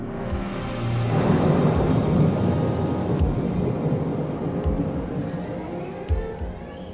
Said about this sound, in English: Some people say that you felt it stirring in your gut before you heard it. Most people have never heard it at all. It was the sound of the kakapo, the old night parrot of New Zealand, sitting high on a ridge and booming for a mate.